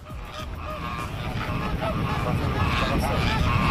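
A dense flock of migratory geese honks continuously at a wetland in Indian-controlled Kashmir in winter, many overlapping calls forming a steady, noisy clamor that grows slightly louder, heard outdoors without talking.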